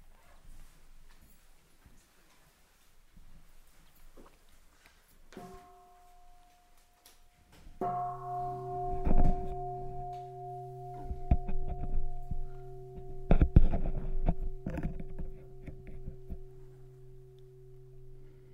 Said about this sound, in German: Jetzt hören wir mal die Glocke und schalten dann um.